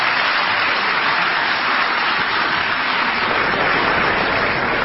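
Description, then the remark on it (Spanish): Steady, dense applause from the audience of a programme, a continuous crackle of many hands clapping at an even loudness for the whole stretch, with no voices over it. “El público aplaude cualquier cosa, porque”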